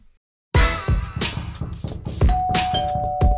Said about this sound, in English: Another ring of the doorbell. Let's see who's here.